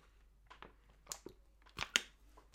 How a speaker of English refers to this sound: Just going to take a sip.